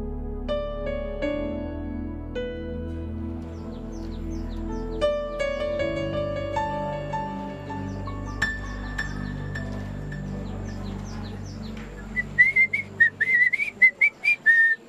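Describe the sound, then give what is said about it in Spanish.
Bright, warbling bird chirps burst out in a quick string of short, high calls near the end, on a beautiful sunny day, following a stretch of sustained tonal music-like notes with no talking. “Qué gusto verlo en este día tan hermoso, donde los pájaros cantan y el sol brilla como nunca antes.”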